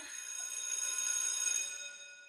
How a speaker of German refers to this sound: Und wenn die Schulklingel wieder klingelt